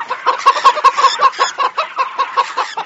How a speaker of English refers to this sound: This is a harmless sound. But if you have something called electrophobia, the somewhat pleasant sound of clucking chickens may send you into a flap.